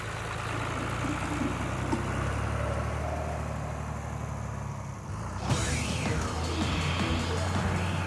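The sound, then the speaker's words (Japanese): A tractor engine, started with a string, idles with a steady, low rumbling drone that runs throughout, joined partway through by a rougher surge of noise and faint warbling tones above the hum. “糸でスタートさせたトラクターのエンジン音が聞こえなかったような。”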